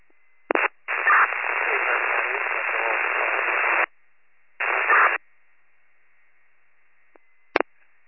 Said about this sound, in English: Trying to reach out, it's all static.